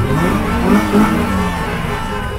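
A dense roar of many car engines revving together in a protest caravan crossing a city, loud and continuous, with a brief surge in the middle, like a crowded line of vehicles passing by.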